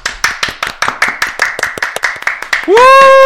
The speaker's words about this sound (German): Und verdient, der König der Gamer-WG ist Roman, der leider nicht dabei ist. Aber wir applaudieren jetzt trotzdem alle einmal für Roman, okay? Applaus, jetzt.